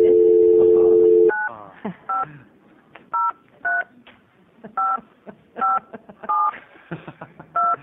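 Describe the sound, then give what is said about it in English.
A steady dial tone hums for about a second, then a series of short, evenly paced touch-tone beeps sounds as a phone number is keyed in to call a witness into a committee hearing on a bill, each beep a clean two-note chirp. “Do you want to sit with us while we ring up”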